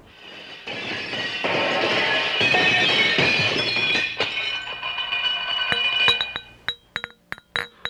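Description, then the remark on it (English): Dense clatter of silverware and china clinking and rattling as a table is set for dinner, building to a busy jumble, then thinning into several sharp separate clinks near the end. No one speaks. “Come on, let's get this silverware and china out.”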